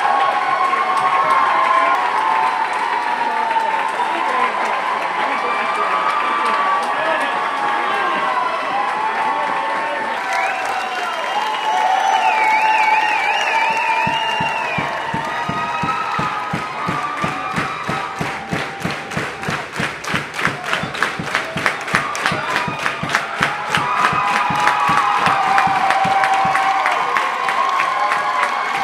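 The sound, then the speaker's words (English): A large concert crowd roars and cheers continuously, with dense clapping building up midway and continuing loudly to the end, with scattered whistles and shouts, at a concert on a hot Thursday night on the East Coast. “This crowd just loved it. It was such a great set.”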